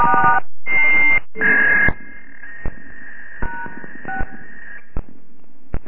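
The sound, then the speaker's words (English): Three quick, loud touch-tone keypad beeps sound as star 6 is dialed to mute a phone line on a call, followed by a long, steady electronic tone with a few soft clicks underneath it, and no one speaks. “To mute your line, it's star 6.”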